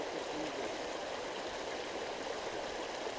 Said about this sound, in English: I'm really close to the stream.